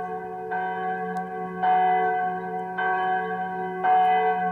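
The church bells of Saint-Marc ring out in overlapping, sustained peals, with fresh strikes arriving roughly every second and a half over a continuous resonant hum. No voices are heard.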